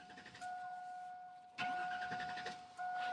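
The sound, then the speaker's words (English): An old, broken-down pickup truck engine cranks and sputters to life, loud, with a steady whining tone underneath and a sharp rattling surge partway through. “I got a broke down truck that makes a lot of noises.”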